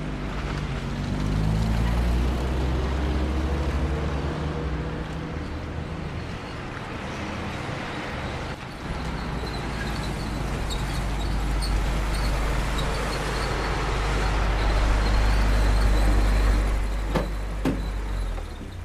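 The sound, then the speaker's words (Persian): A car engine is started and runs, rumbling loudly and steadily throughout, with a rising revving tone early on before it settles into a continuous drone. “برام این ماشین روشن کن.”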